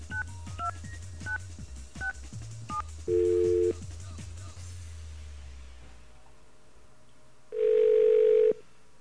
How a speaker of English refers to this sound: Okay. Let's give a call. If we can get touch tones, there we go.